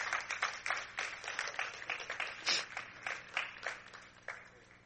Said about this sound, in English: Get a Lord a hand clap of praise for his word.